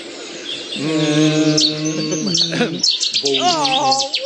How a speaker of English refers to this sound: Chetty's warbler. You did hear it. You did hear it.